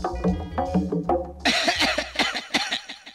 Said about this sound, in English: What a lot of coughing.